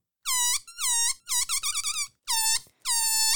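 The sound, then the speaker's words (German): A balloon squeaks out a birdsong imitation: five loud, high-pitched chirping bursts with wavering, sliding pitch, the middle one broken into rapid warbling trills, alone with no voices. “Probiert das einfach mal ein bisschen aus und spielt ein bisschen rum, dann könnt ihr euer ganz eigenes Vogelgezwitscher erzeugen.”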